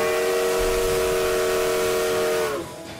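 A circus steam train's whistle blows loud and sustained, its bright chord riding over rushing steam hiss, then slides down in pitch and drops away near the end while the hiss lingers.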